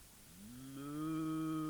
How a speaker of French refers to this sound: Meuh, fait Amélie. Fait Fallot.